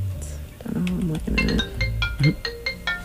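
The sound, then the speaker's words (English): A phone ringtone for an incoming call from the Middle East plays a quick, repeating electronic melody of bright beeping tones, fairly loud, with a person talking underneath it. “That's a call from the Middle East. So. Oh. I just can't take the call.”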